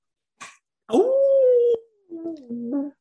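howl

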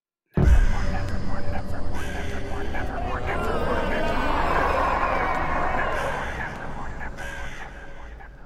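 raven croaking

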